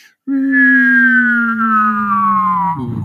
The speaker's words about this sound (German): Oh, das Ende war richtig gut. Ich weiß nicht, ob man es wirklich jetzt übers Mikro hört, weil es ja so ein Pfeifen ist.